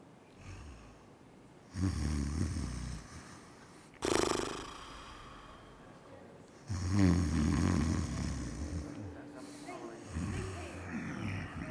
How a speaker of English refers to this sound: What is that noise? What is that sound? Yeah, someone snoring or sleeping.